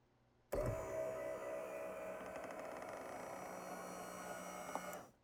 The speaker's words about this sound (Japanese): はい、軽く拭き終わったから椅子を起こします。